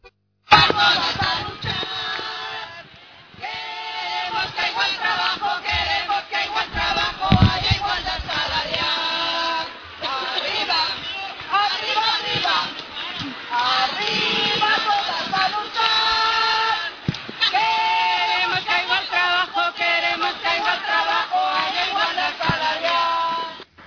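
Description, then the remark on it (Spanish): A crowd of women at an 8 March march shouts and chants together in loud, sustained waves, voices overlapping into a dense roar with brief dips between bursts over about twenty-four seconds. “Esa era la voz de todas las mujeres el día 8 de marzo, allí gritando, dejándonos las gargantas para ver si es que esto nos sirve, y seguro que servirá para mejorar nuestras vidas.”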